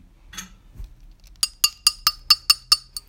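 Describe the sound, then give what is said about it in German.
A few soft handling noises, then a glass clinks seven times in a quick, steady rhythm, each bright ringing tick clear with no talking. “Was wir noch brauchen, ist ein Glas und einen Stift.”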